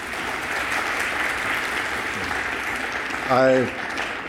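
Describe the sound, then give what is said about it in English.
A crowd in Konstanz claps steadily in a dense, continuous wash of applause after a welcome greeting to program participants, with a brief voiced sound rising over it near the end. “It was not my intention to provide applause here, but I would like to mention that the fact that I was able to pronounce it at least in a way that you understood what I said, I owe that to my son-in-law,”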